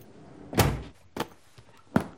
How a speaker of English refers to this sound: He inserts a key, then carefully turns the dial of a combination lock. He turns the key, opens the safe's door, then takes out a fat money pouch and tosses it in a briefcase.